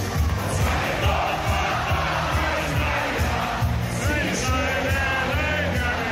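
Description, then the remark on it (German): A dense crowd in a beer tent bawls along loudly and steadily to a thumping, rhythmic band, voices blending into a raucous, continuous sing-along with occasional yells rising above the din. “und du hebst die Hände in die Luft und grölst laut mit.”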